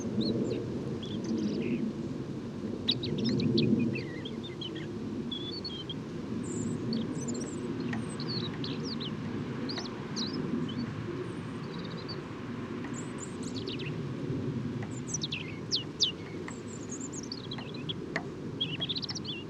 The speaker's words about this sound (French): Donc chant très intéressant de rouge-gorge, en babille, en sourdine, et presque en continu. Ah, dommage qu'il y a la pluie et les avions.